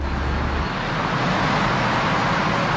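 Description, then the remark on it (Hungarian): Steady, loud roar of heavy truck traffic on a transit road, one of more than 50 such roads, with a deep low-end rumble like trucks passing continuously, no voices present. “Ez az út az egyike annak a több mint 50 tranzitútnak, amelyet januártól csak matricával használhatnának a kamionok.”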